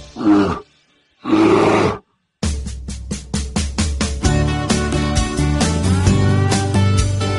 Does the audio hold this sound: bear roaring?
yes